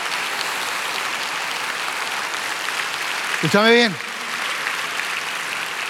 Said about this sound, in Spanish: Uf, denles un aplauso.